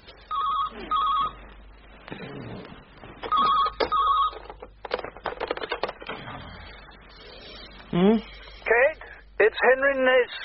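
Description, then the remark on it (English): A telephone rings twice in short, buzzy double bursts a few seconds apart, clear, followed by people talking and some handling noise. “Phone.”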